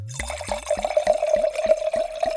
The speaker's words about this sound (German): Und jetzt gieße ich das auf mit Gutedel und du hast gesagt, wie viel CL? Sag einfach Stopp.